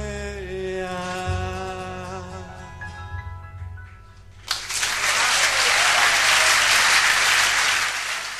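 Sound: audience applause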